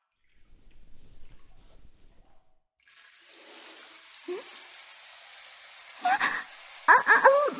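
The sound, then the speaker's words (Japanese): After a few quiet seconds of low rumbling, shower water bursts on into a steady hiss of spray, with a few louder splashing bursts near the end. “まずはシャワーを。”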